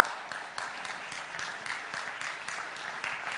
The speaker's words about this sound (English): He still lives today. He is. You can clap for that.